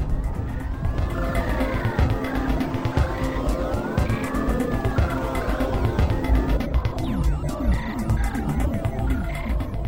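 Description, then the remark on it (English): An art car made of two 1970s vintage VW bay window buses rumbles steadily as it drives. Its loud engine drones throughout while wavering, rising-and-falling whining tones sweep over the top. No one speaks. “I just rode on Buszilla, the official art car of VW Bus Camp, which is it's two 70s vintage bay window buses.”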